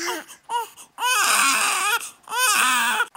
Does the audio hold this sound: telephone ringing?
no